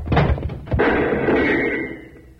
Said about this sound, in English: When I give the word, we'll go through this door fast.